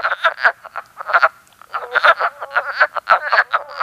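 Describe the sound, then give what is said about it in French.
Wood frogs, each about the size of a two-dollar coin, call in a steady stream of short, raspy clucks that sound a bit like ducks quacking, overlapping in quick irregular bursts with no voices present. “Elle est grosse comme une pièce de 2 $ et son chant ressemble un peu au « coin-coin » du canard.”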